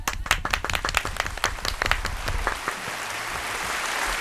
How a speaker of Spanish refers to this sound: Oye, el aplauso del día para Guarromán. Venga, chicos.